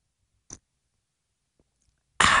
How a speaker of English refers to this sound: So cheers to this audience as I take my first sip of the Patriot Blend Coffee here live on air. Big fan.